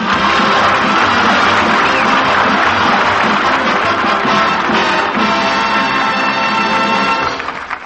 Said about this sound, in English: Applause and play on for Robert Benchley.